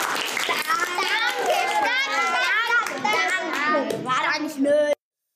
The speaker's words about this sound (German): Applaus für euch!